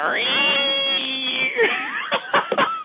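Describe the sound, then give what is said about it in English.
A person imitates a cat with a long, wavering, high-pitched yowl that slides and bends before breaking into a few short, choppy vocal bursts. “I don't know why I want to do a cat sound.”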